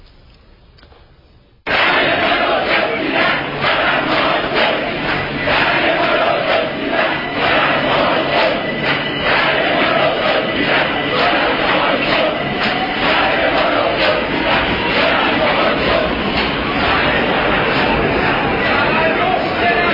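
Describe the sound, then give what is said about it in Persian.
After a brief quiet moment, a large protest crowd bursts into loud, sustained chanting of protest slogans in a Tehran metro station in Iran, many voices shouting together in steady rhythmic pulses that continue without a break. “در تهران دامنه این تظاهرات به ایستگاه‌های متروی تهران نیز کشیده شده است.”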